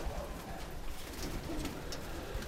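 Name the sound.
pigeons cooing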